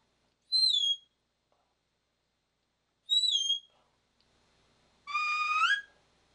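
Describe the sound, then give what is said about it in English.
Three sharp herding-dog side whistles sound alone and loud: two matching high-to-low whistles with gaps between, then a longer, lower whistle that sweeps upward at the end, one side whistled low-high, the other high-low. “A good simple set of whistles that you could use would be keeping one side low-high, the other side high-low.”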